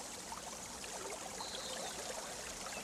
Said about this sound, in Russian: Кроме далекого шума воды в реке, не было слышно ни звука.